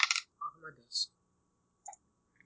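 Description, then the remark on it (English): A quick series of sharp clicks and rattles as two six-sided dice clatter across a table during a tabletop role-playing game: a loud burst at first, several lighter taps, then a couple of faint knocks after a pause. “I went and dug out some dice.”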